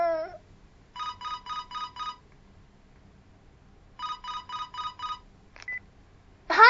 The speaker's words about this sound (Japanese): 殿様から電話が。